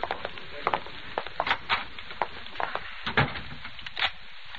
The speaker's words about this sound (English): Well, you didn't have to lock the door